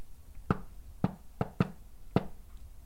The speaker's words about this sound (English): There's clearly something loose in the floor that I'm dislodging, and that's what causes a reply sound. All it'll take is a knock with some rhythm, and that'll prove that there's nothing there.